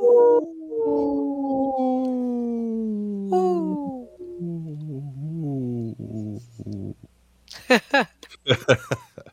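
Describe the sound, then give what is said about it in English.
A person imitates a wolf howl, a long, loud, wavering cry with a falling pitch that warbles and breaks off, followed by a few sharper yips and whoops near the end. “I just showed my wolf.”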